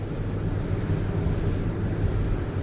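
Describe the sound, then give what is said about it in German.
A steady, low mechanical whirring of more than 50 large, 60-metre-tall wind turbines on a high plateau near the industrial city of Pune in western India blends with constant gusty wind rushing across the open space, holding an even loudness throughout with no voices. “Unter den surrenden, 60 Meter hohen Energietürmen weiden Bauern ihre Kühe.”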